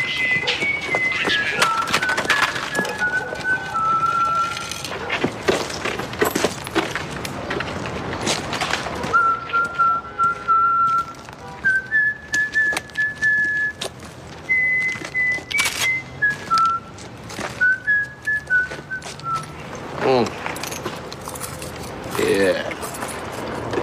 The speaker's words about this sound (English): Just in this clip, you've got the whistling, of course, of the farmer in the dell. You've got Omar's code, sort of, because the whistle does give prospective Robbies the chance to bail.